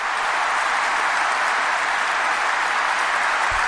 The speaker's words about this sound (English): Yeah, so they're standing and cheering and clapping. Not cheering, clapping. And at the very end, the politicians rose to their feet and clapped as well.